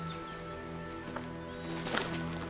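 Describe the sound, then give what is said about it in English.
A few scattered hoofbeats from a horse as a woman climbs back onto it and rides off, fairly soft and irregular, set against a steady sustained musical drone with no talking. “Marion climbs back onto her horse and rides off.”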